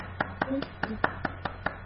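Children clap their hands in a steady, brisk rhythm, about nine crisp claps in quick succession, with a faint murmur of voices underneath.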